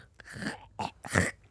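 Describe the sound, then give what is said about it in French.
A person imitates someone clearing their throat, making a few harsh, raspy, phlegmy bursts in quick succession, fairly loud, with no talking. “Un son que tu détestes. Quelqu'un qui se racle la gorge.”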